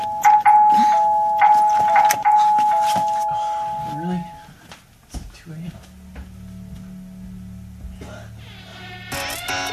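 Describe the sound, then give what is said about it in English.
A doorbell chimes several times in quick succession, a bright ringing tone over a busy background, followed by quieter rustling and a low hum, with a voice briefly speaking near the end. “My dad was this close to seeing me when the doorbell rang.”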